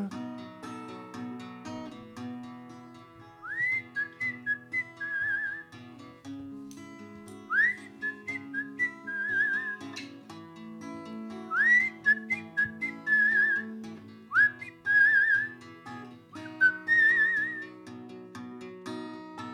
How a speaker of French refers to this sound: Est-ce que tu m'entendais siffler tout seul?